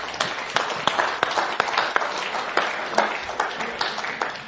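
An audience applauds steadily for several seconds, a dense patter of many hands clapping at once with a few sharper claps standing out, filling the room at moderate volume.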